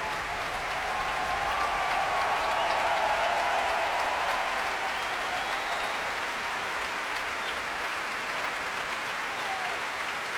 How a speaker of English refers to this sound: Again, trying to deflect the applause by turning towards his players and bowing to them.